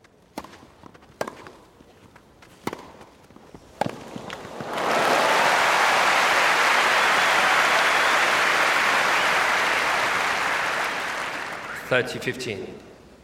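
A few sharp, isolated knocks give way to a sudden, loud roar of a cheering crowd with applause, recorded in surround sound, holding steady for about seven seconds before easing off.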